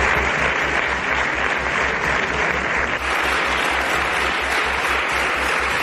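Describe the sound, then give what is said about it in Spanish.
Sustained applause lasting more than a minute from the deputies of the Grupo Popular in parliament, dedicated to Pablo Casado. A dense, steady roar of clapping with a faint rhythmic pulse holds loud and even throughout, with no voices standing out. “Más de un minuto es el que han dedicado los diputados del Grupo Popular a Pablo Casado, entre ellos los que le han ido abandonando en los últimos días, sobre todo ayer”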